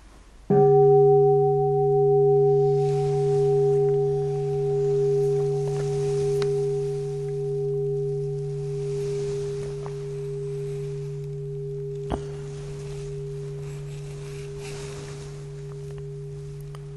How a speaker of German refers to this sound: Ja, ich glaube, wir hören jetzt erstmal eine Glocke. Hören und freuen uns, dass unsere Ohren noch funktionieren.